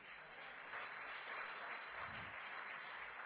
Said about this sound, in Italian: Forte applauso al Signore.